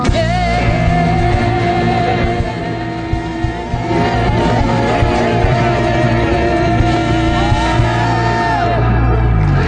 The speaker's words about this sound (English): You guys help me out as we cheer on the sound techs. Ready? Yeah.